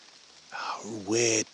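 Steady rain hisses softly throughout in hot, muggy, tropical-feeling weather, a fine continuous patter, while a voice briefly rises over it near the end.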